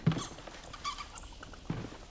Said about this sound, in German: Das gibt's doch nicht, eine Fledermaus. Hey, du Flattertier! Husch, raus! Raus aus meiner Wohnung! Na komm, raus mit dir!